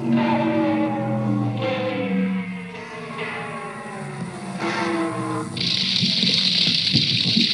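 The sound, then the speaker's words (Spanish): Water gurgles and flows steadily, with resonant tonal hums sliding underneath, then a brighter, hissing gush takes over for the last couple of seconds. No one speaks. “O sea, una especie de pieza con base de sonidos de agua.”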